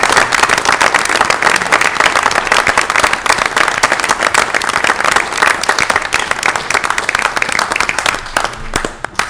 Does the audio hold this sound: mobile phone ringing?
no